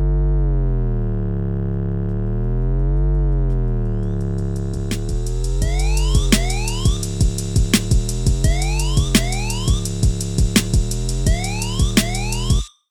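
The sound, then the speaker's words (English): A wailing siren tone rises and falls steadily, then a punchy hip-hop drum pattern and sliding bass kick in partway through, driving under the siren to the end. “Of course, because of their use as an emergency signal, we hear sirens and associate them with panic and anxiety.”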